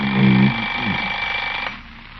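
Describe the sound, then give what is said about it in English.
An alarm clock rings with a steady, shrill electronic tone that holds for under two seconds before cutting off, preceded by a brief low buzzing hum at the start. “Alarm.”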